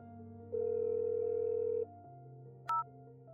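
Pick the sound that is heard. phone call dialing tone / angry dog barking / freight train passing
phone call dialing tone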